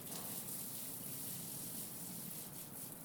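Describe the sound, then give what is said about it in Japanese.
Steady, continuous shower spray with a broad hiss, running water pouring and splashing without pause as foam is rinsed off the body, including the soles of the feet; no speech. “体もしっかり泡残りがないようにと、足の裏の泡もちゃんと落として、お待たせ、洗い終わったよ。”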